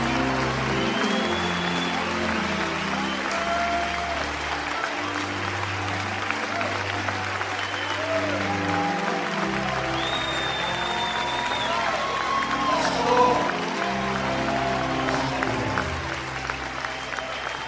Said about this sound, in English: Now give the Lord a hand clap of praise in this house today.